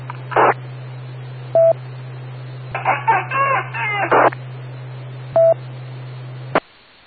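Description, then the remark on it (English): Over a steady radio hum, a few seconds of warbling duck and bird-like calls come through, framed by short static bursts and two brief beeps before the signal abruptly cuts off. “Okay, it looks like the ducks and the birds are out there.”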